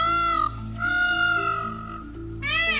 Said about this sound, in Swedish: Vi klämmer in hur en påfågel egentligen låter här.